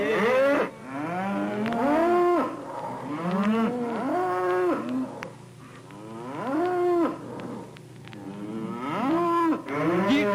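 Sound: cattle mooing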